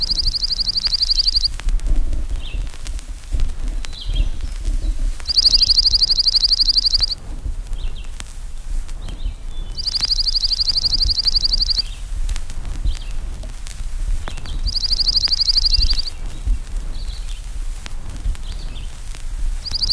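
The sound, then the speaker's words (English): A slate-colored junco sings a dry, rapid trill four times, each lasting under two seconds and spaced a few seconds apart, over a low outdoor rumble. “The chippy-like trill of the slate-colored junco is a familiar sound throughout the spruce forest in summer and further south on migration.”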